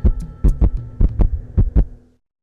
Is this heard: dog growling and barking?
no